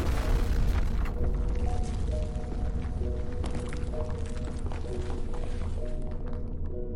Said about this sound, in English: The explosion fills the ladder well, sealing it with dirt, with flesh, and with stone.